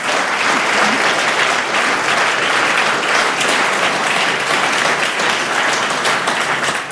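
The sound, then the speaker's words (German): A large audience in a hall applauds its guests steadily, a dense, even wash of many hands clapping that stays loud throughout without fading or pausing. No voices stand out. “Aber bitte einen ganz großen Applaus noch einmal für unsere Gäste.”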